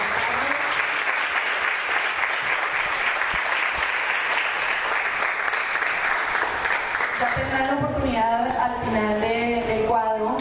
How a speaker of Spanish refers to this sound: Quiero presentarles primero a Luis Carlos Álvarez, jugador del ATP, jugador mexicano, que estará representándonos a todos en esta novena edición del Abierto de Los Cabos. Un aplauso, por favor.